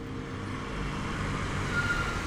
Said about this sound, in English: And then I heard a truck come up behind me. And this guy pulls up. He's got this I think it was about a 60 Ford pickup, blue and white.